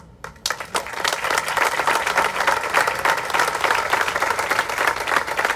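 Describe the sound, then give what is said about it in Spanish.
An audience breaks into steady applause for the city, starting abruptly and holding at a loud, even level, dense overlapping claps forming a continuous wash of sound with no talking. “Ese aplauso es para la ciudad.”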